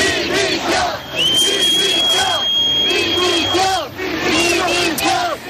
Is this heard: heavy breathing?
no